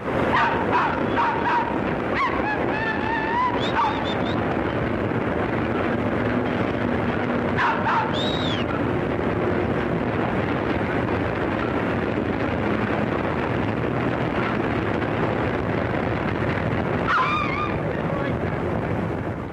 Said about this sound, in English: This is the sound of a noisy curve along the old 9th Avenue elevated subway train sometime in 1929. And you will hear, in addition to the sound of the train itself, that it definitely freaks out a certain other species of being.